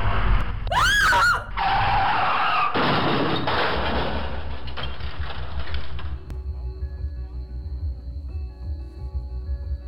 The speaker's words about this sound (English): Now I remember. That truck turned out of the Circle K and I couldn't stop in time.